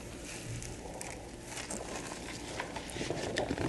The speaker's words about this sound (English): Me chewing ice is going to sound awesome on this recording, by the way.